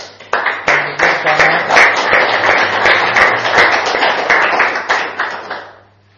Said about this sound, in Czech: Takže já bych možná dneska všem maminkám poděkoval za jejich péči a lásku a mohli bychom jim zatleskat, co říkáte. I těm, co tady nejsou, protože si to zaslouží. Jo, můžeme?